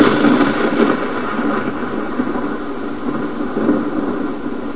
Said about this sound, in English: That's why when we see the light from a lightning bolt, it's always before we hear the sound waves of the thunder.